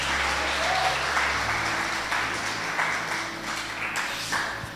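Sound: audience applauding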